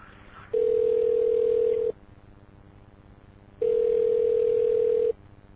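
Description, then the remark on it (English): A telephone line tone on a call to a Sprint phone sounds twice, each a steady, clear beep lasting over a second, separated by a pause of similar length, with no voices and only faint line hiss between. “So the Sprint phone told me I must be in my fucking home coverage area.”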